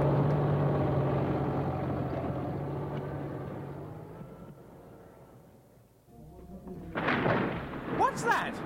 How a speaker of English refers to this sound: They haven't started yet. Oh, good. It's probably just your house being knocked down. What? It hardly makes any difference at this stage. My God, it is!